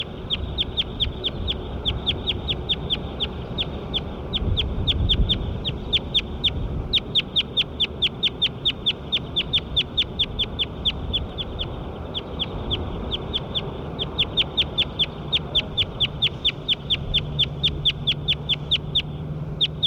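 A bird calls in long, fast runs of sharp, high-pitched chirps, steady and rhythmic with brief pauses between bursts, over a low rumbling background hum. No one speaks.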